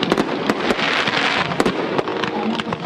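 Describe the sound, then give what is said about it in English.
Fireworks crackle and pop in a dense, rapid barrage at an annual Independence Day event in Coachella, California, with sharp bursts layered over a continuous hissing crackle and a low rumble of booms, loud. “Those were fireworks that were held last night at an annual Independence Day event in Coachella, California.”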